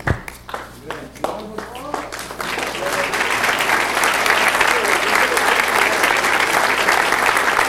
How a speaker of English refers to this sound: Please give all our wonderful volunteers a well-deserved round of applause.